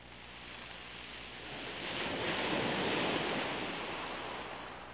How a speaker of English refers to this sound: Windy, isn't it? Yes, it is.